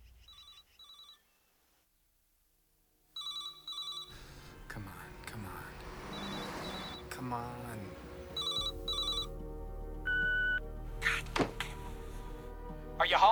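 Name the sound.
telephone ringing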